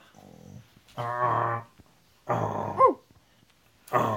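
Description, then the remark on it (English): A dog makes a series of low, drawn-out growling vocalizations mixed with whiny, whimpering tones, in several bursts with short pauses between them, fairly loud. “He's making this sound. That's what he wants to do today.”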